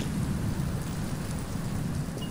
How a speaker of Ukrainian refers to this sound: Машина поволі їхала вечірнім Парижем. Дощ тарабанив по ній зверху і забивав майже всі інші звуки.